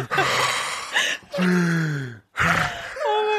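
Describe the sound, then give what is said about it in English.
A voice imitates heavy breathing with three drawn-out, groaning gasps separated by brief pauses, fairly loud, with no words spoken. “are you breathing heavy?”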